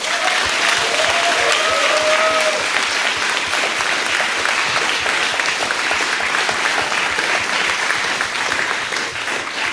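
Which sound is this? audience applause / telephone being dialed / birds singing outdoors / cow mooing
audience applause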